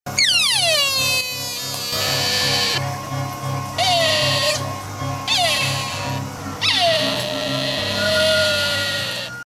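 A large deer that keeps following the group calls out repeatedly, about four high, plaintive cries that slide downward in pitch, loud and wavering over a low, steady droning background.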